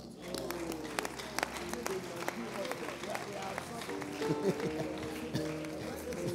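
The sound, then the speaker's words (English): An audience claps for the preacher during a sermon, in uneven, scattered bursts for several seconds, the sharp hand claps layered over a steady hum of voices and sustained tones in the background. “Everybody is clapping for me.”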